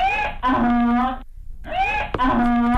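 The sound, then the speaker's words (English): A loud donkey bray rings out, two long harsh hee-haw blasts separated by a brief gasping pause, with no talking over it. “Please give Aaron Schlossberg the biggest hee-haw.”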